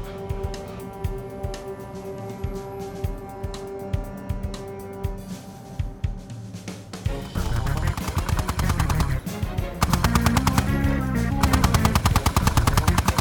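gunfire

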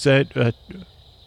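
cricket chirping

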